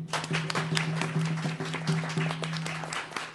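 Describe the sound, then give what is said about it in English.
A room full of people claps steadily for a few seconds to welcome a speaker at the Indian Pueblo Cultural Center, the dense applause carrying over a constant low electrical hum. “Please welcome, with a warm round of applause,”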